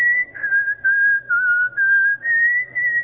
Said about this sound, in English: Music is a universal language, as you may well know. A universal language crosses all kinds of boundaries and barriers. You know, you can hum or whistle, "Jesus loves me."